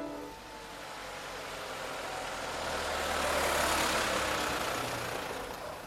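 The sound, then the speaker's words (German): A small truck's engine runs steadily, a low rumble with a broad hiss that swells midway as it drives off along a street, then eases slightly; no voices. “Ich stehle ja keine Kleinlaster. Ich gebe sie gleich wieder zurück und sogar noch besser als vorher.”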